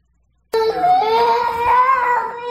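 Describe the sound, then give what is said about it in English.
After a moment of silence, a child abruptly bursts into loud, sustained crying and screaming, a high wailing voice whose pitch wavers and rises for about two seconds without letup. “So I finally sit down to do some prep work and I hear screams from the other room.”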